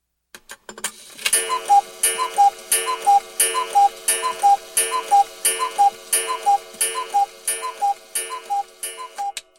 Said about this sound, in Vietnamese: Đồng hồ treo trên tường đang tích tắc đều đặn chỉ thời gian.